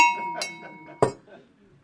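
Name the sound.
bell being rung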